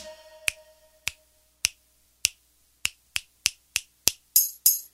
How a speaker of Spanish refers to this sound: chasquear.